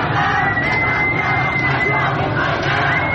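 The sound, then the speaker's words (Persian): A large crowd of protesters in the streets in Iran roars and chants slogans continuously, a dense wall of many voices shouting together at steady loudness, with a faint high whistle-like tone running through the noise. “علی‌رغم این سرکوب شدید، خیابان‌ها شلوغ هستند و صدای شعار قطع نمی‌شود.”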